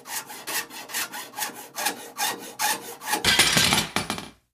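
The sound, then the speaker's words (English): A hand saw cuts with steady back-and-forth strokes in a prison at night, about a dozen rasping pulls in a regular rhythm, growing harsher and brighter near the end before stopping abruptly. No voices. “So he would have these 20-minute increments of time where he could saw, and then wait.”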